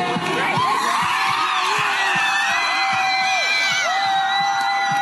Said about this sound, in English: You're going to hear Yale students chanting Viva Viva Palestina as the American flag gets taken down. And when it hits the ground, you hear these students cheer.